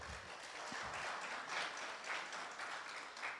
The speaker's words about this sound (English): I greatly appreciate the applause. I don't know what it means in this moment, but thank you